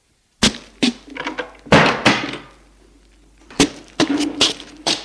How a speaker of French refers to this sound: Au revoir, monsieur. Et il ferme la porte.